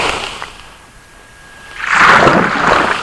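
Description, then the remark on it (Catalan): Underwater recording made with a hydrophone about half a metre from where an ocean wave breaks: a quiet, hissing lull gives way to a loud, bubbly roar and fizz of churning water that swells and lingers. “Aquest so està enregistrat amb un hidròfon i està aproximadament a uns a mig metre en el lloc on la onada doncs trenca.”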